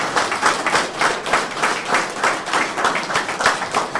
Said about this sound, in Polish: Że za każde klaśnięcie, za każdy oklask jedna osoba przekonana do wyboru. Więc niech sobie każdy policzył, ile razy klaskał.